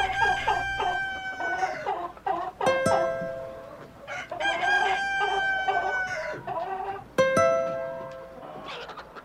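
A rooster crows repeatedly, with harmonic crows rising above a steady background of hens clucking and cackling, loud throughout, with no voices present.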